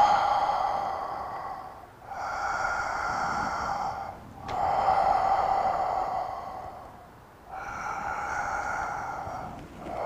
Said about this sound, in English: You have to regulate the breathing according to the pace.